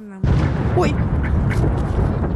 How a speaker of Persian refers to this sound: اما هنوز سخنان او تمام نشده بود که صدای یک انفجار مهیب بلند شد.